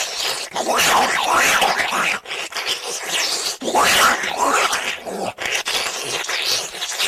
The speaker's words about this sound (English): Because it's followed by, she gets the bun, dips it in water, that goes down next. Like a snake eating an egg.